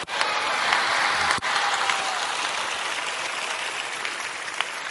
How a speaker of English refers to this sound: Thank you, those who are clapping.